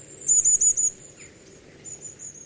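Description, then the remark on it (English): A flock of long-tailed tits calling: high, thin twittering notes in quick strings, a short burst early and more trailing in later, with a brief lower chirp between, and no voices. “The flock of long-tailed tits you hear in your garden or in local woods is probably a family outing.”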